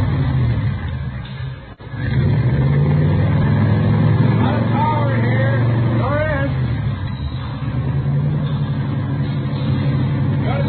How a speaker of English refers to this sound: Mallory ignition, milled heads, twin Wakefields. Here, let me start it up for you. Okay. 120 horses under there. Sounds good. Listen to that. Beautiful, isn't it?